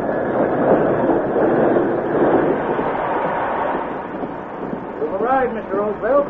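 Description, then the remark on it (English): A steam train, hissing steam and throwing sparks, rumbles into the station at Medora with a dense, steady roar, then several high, wavering cries rise over the noise in the final seconds. “The arrival of the train with its hissing steam and flying sparks sent the buckboard horses into a frenzy of fear.”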